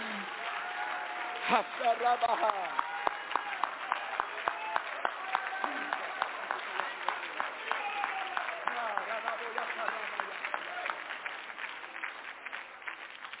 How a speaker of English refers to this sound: Now, if you really believe that prayer, would you clap your hands unto the Lord?